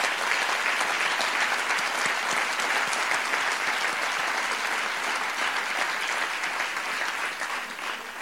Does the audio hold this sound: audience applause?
yes